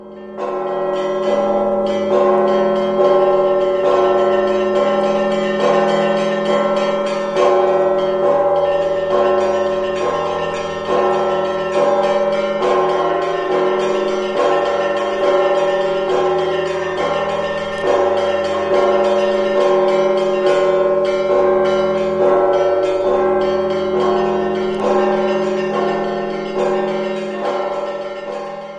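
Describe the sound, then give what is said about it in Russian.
Monastery church bells peal continuously and loudly, several bells of different pitches striking in a steady overlapping rhythm, with deep tones humming beneath bright ringing strokes. No voices are heard. “И, конечно, очень отрадно, что обитель сумела найти средства и необходимые возможности для того, чтобы записать нынешний колокольный звон.”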